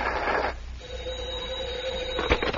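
telephone ringing

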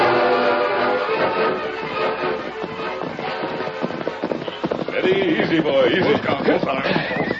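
horses trotting

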